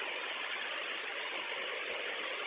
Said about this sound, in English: Not yet, because I couldn't see, but the car is moving right now, but I don't know.